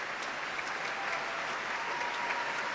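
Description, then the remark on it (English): Steady, sustained applause from a large audience at a BBC Proms concert in a reverberant concert hall, for the leader of the 2016 National Youth Orchestra, Millie Ashton; a dense wash of many hands clapping at once, with no voices standing out. “That's applause for leader of the 2016 National Youth Orchestra, Millie Ashton, who has just got to attach a microphone to her violin.”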